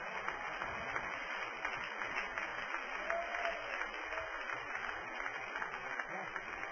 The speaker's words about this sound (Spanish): Denle un aplauso a Jesucristo.